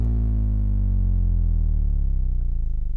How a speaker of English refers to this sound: And it just so happens that it's a very low frequency sine wave. So I'll give it a spin, and you can hear that this is just the sound of a hard drive motor amplified.